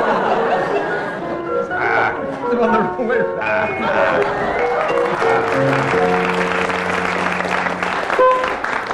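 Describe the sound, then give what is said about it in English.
An audience breaks into loud, sustained applause with cheering and laughter mixed in, a steady wash of clapping for several seconds, indicating that Barry Cryer and Graham Garden appear to have dressed the doll first. “Well, that round of applause indicates to you that Barry Cryer and Graham Garden appear to have dressed the doll first.”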